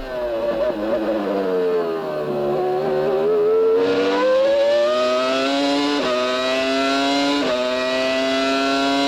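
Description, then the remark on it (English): A Formula One car with a Super Tech engine screams at high revs through turns 6 and 7 onto Lakeside Drive, its pitch dipping as it brakes then climbing sharply through upshifts, with quick gear-change steps. Loud and continuous, with no voices. “Now just listen to that Super Tech engine.”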